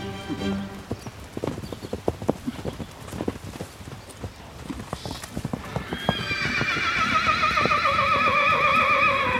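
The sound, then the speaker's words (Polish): At a show of young Małopolski horses, hooves clop in a brisk, uneven rhythm for several seconds, then a horse lets out a long, loud, wavering neigh. “Przekręcamy wehikuł czasu i już jesteśmy z powrotem na pokazach młodych koni małopolskich.”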